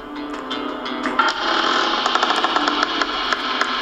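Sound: creaking door sound effect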